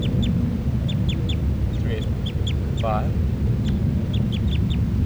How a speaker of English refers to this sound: 383 calls, and then 384. Now all the birds are calling stuff. It's a recording, this is bird 383 calling louds.